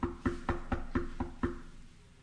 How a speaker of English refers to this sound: He's saying, "Behold, I stand at the door. I'm knocking.